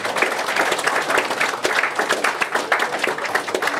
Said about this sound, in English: Leon Haslam, please. Welcome to the front of the Stirrup Cup for a quick couple of words, because I couldn't possibly not talk to Leon. Round of applause. Well done.